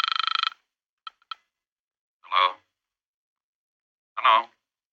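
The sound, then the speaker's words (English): A telephone gives one short, rapid trilling ring that cuts off abruptly, followed by a couple of faint clicks and two brief spoken words separated by silence. “It's ringing. Take it.”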